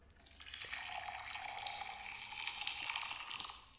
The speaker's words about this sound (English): I'm going to say the first one was hot. Is it cold? No, you're totally right. The first one's hot water. Yeah. It does have that distinct sound, right?